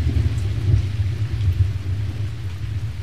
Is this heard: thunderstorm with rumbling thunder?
yes